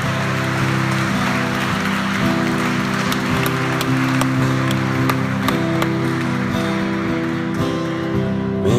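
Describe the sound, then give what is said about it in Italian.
A crowd applauds the Lord Jesus steadily for several seconds, a dense wash of many hands clapping, with sustained low musical tones humming underneath throughout. “Applauso al Signore Gesù, luce del mondo, meraviglia ai nostri occhi.”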